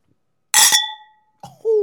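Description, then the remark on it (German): Wine glasses clink together once in a bright toast to Mama Christa, the high ringing tone lingering and fading for most of a second before a voice briefly murmurs. “So, ich würde sagen, wir heben die Gläser unten, damit es schön klirrt für Mama Christa.”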